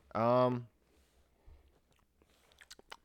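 crunchy snack being chewed

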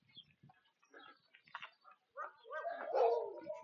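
dog barking

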